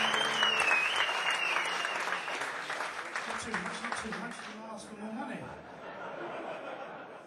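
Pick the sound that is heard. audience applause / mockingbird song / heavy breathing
audience applause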